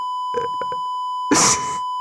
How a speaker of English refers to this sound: Sid, bleep this out.